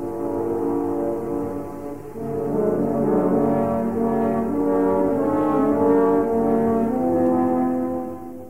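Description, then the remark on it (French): Three French horns play the theme of the big grey wolf from Peter and the Wolf: dark, sustained, low brass chords that swell and shift in a slow, ominous phrase, loud and unaccompanied by speech. “Écoutez les trois corps sévères et sombres.”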